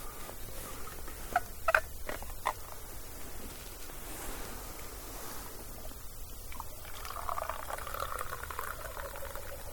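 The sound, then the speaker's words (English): Liquid pours steadily from a thermos with a soft, bubbling gurgle, preceded by a few light clinks and knocks. Fairly quiet, with no talking. “Out of the thermos this year.”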